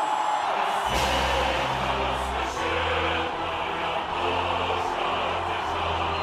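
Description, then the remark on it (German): A large crowd cheers for Vladimir Putin, roaring loudly and continuously, a dense wash of voices with a low rhythmic droning pulse underneath, holding steady for the whole stretch. “Der Jubel hier, der gilt gar nicht mehr.”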